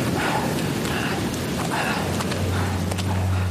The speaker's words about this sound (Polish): Deszcz padał ze zmiennym nasileniem przez 3 dni.